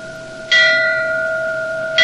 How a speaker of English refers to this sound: The bell marks the stages of the day, and at 6:15 it sounds for breakfast.